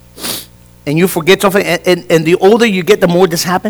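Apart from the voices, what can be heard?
a sneeze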